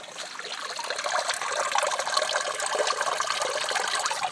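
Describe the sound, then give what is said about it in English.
Water pours and gurgles steadily into a local street drain where water has accumulated across the road, a continuous rushing trickle that holds an even level throughout with no voices. “That just proves that the local drain works.”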